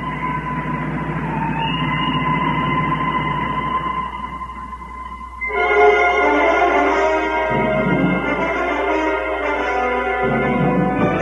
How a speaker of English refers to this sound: Oh, splendid. A train. Now I'll be covered with soot before I can reach the top.